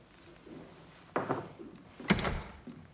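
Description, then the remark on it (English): Two heavy knocks by an equerry on large, grand wooden doors in a palace, spaced about a second apart, each ringing out briefly, with no voices. “As before, the equerry knocks on the grand doors.”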